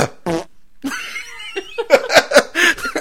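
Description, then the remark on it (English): A voice imitates a man farting with a long, buzzing, spluttering raspberry, then coughing in a run of short, sharp bursts, all fairly loud. “He farts, and then he coughs.”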